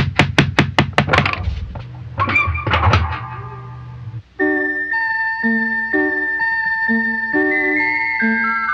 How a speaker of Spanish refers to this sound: ¿Y si tocamos la puerta?